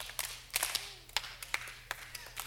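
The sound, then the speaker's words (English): Scattered, uncoordinated hand claps from an audience at a talk, meant to be just one clap: about a dozen sharp claps spread unevenly over a couple of seconds, as if several people each clap once at slightly different moments. No one speaks. “Nope, just one clap. Just one clap.”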